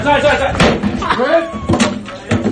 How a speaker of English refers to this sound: This dude, on the way out the door, grabs an acoustic guitar and just starts smashing everything in the store. It's a wild scene.